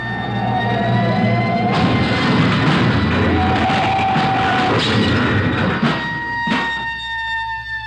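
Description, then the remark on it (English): A speeding semi-trailer truck, its trailer whipping, goes over and crashes into a storefront, a long loud grinding crunch of metal and debris over steady wailing sirens, ending with one sharp bang as the noise dies down. “They're going over. Into that storefront.”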